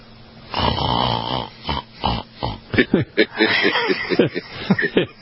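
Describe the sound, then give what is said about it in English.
A man's voice imitates the loud snoring of two pilots who fell asleep on an Airbus at 38,000 feet while on autopilot: a long, rough, rasping snore, then a few shorter snorting breaths, followed by voices talking and laughing. “a story from The Guardian in the UK about two pilots on an Airbus that fell asleep while they were at 38,000 feet.”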